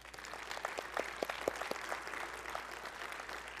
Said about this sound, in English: we want to give the Lord a clap offering.